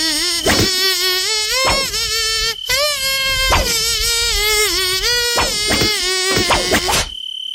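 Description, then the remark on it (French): A loud, nasal tiger-mosquito whine, apparently voiced or imitated, glides through a wavering tune for about seven seconds over steady rhythmic thumps, then cuts off abruptly. “Alors nous, on fait dans le luxe ce matin parce qu'on a carrément un moustique tigre avec nous.”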